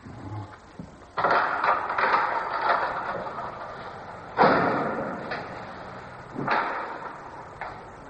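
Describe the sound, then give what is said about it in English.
A heavy door is hauled open with a series of loud clunks and rumbling scrapes, three strong jolts spread over several seconds, with no voices. “Open the door, Jeb.”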